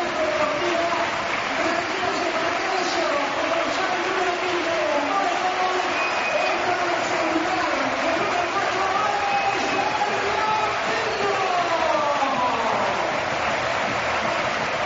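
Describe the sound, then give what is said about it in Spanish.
A large crowd at Riazor stadium applauds and cheers footballer Juan Carlos Valerón, number 4, as he is substituted off, a dense, steady roar of clapping with raised voices and shouts rising through it at an even, loud level. “Futbolista aplaudido en Riazor siempre, pero también aplaudido en el resto de campos de fútbol, incluido, todo hay que decirlo, el estadio de Balaído.”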